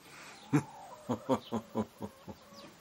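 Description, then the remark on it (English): A rooster sounds off in a quick run of about seven short, harsh bursts, loud at first and gradually fading, with no voices around. “the rocking rooster.”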